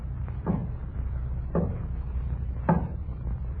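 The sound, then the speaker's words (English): Three slow, evenly spaced knocks on a wooden door, each a dull, fairly loud thud about a second apart, over a low background hum with no voices. “We were sitting there eating when there was a knocking at the door.”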